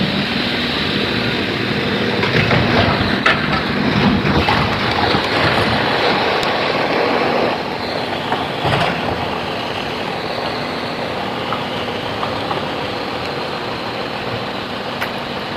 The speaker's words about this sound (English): Some sort of roaring noise. Chipper shredder, maybe. Oh, garbage truck. Put that in the back.